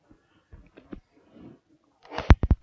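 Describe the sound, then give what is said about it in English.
A sudden, forceful sneeze, bursting out after a couple of seconds of faint shuffling and soft breathy sounds, followed by a few sharp trailing bursts. “Bless you.”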